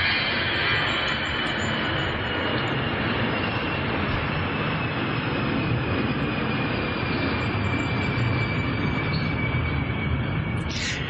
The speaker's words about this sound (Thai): คราวนี้บางคนนะจิตก็ไหลตามเสียงเรือบินบางคนกลัวจะไหลก็จ้องเอาไว้ก่อน